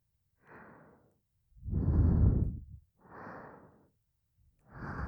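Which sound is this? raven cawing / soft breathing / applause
soft breathing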